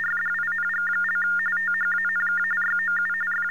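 TDD machine tones over a phone line: a continuous warbling signal that flips rapidly between two mid-high pitches for several seconds, with a steady low hum beneath and no voices.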